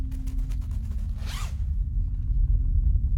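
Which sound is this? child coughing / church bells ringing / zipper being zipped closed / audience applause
zipper being zipped closed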